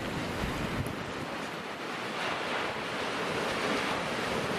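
A steady, full roar of ocean surf washing onto the shore where many surfers wait to catch the waves, fairly loud, with some wind buffeting the microphone and no voices.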